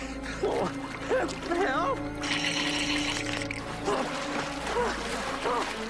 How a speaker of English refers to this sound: I seem to be in a bit of a situation. I've fallen into a lake. It's cold water, and I'm wearing nothing but a t-shirt and a pair of shorts.